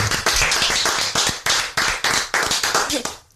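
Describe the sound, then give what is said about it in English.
A slow clap from a few people, loud, with sharp claps landing in a ragged, uneven rhythm before it tapers off at the end. “No, he's trying to slow clap.”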